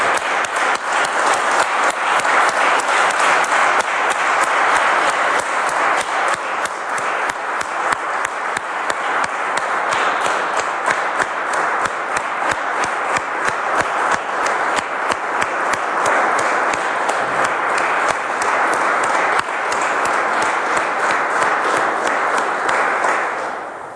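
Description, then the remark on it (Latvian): Sustained, dense standing applause from a large crowd of deputies in the hall of the Latvian parliament (Saeima), honouring those who voted there 30 years earlier to restore independence; steady and loud for the full stretch before easing slightly at the very end, with no voices standing out. “Godātie kolēģi, deputāti, visi, kas seko līdzi Saeimas sēdei, piecelsimies un godināsim viņus ar aplausiem.”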